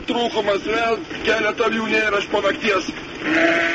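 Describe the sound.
Sheep of a sheep breeder in Lithuania bleat repeatedly in wavering, overlapping calls, loud, with what may be a voice mixed in under the flock.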